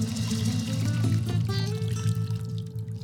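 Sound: water being poured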